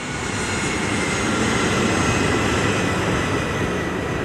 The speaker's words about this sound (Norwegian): Og nå tråkker kaptein Van Santen på bremsene, og du kan høre at motorene begynner å få opp turtallet.